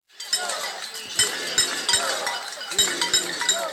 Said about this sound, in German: Menschen schlugen aus Protest auf Pfannen, weil sie sich ärgern über die Maßnahmen der Regierung gegen das Coronavirus.